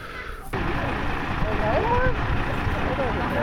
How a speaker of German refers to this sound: Der Motor ist angeworfen. Der Pferdehänger mit den 5 Pferden aus der Thüringen Geti von Heinz Blei fährt vom Hof.